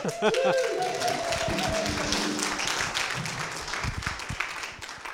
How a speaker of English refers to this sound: of a half-hearted clap, innit? If you're going to clap, clap.